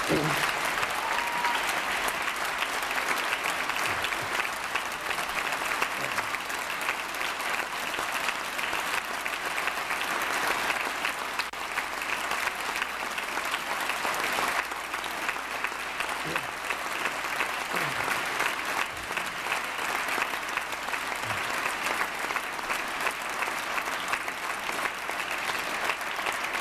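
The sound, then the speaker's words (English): Sustained audience applause, a dense, steady roar of many hands clapping at an even loudness throughout, with no break and no voices standing out. “That may have been the biggest applause we got.”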